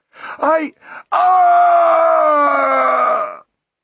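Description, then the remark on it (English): A voice, the dwarf Mulch, lets out a couple of short strained cries, then one long drawn-out final scream that roughens toward a gurgling, rattling end before cutting off. It is loud, with no talking. “The dwarf dragged his final scream out, petering off to a gargling rattle.”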